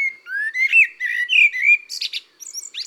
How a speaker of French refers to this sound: Le merle noir est le musicien du jardin et des bois.